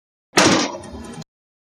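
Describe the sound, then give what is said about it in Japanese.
A single loud bang of a window frame at home knocked by strong wind, followed by a brief rattling clatter that cuts off abruptly, with no voices. “これね、うち今風が強いんでね、窓がこういうガタガタいっちゃうんですよ。”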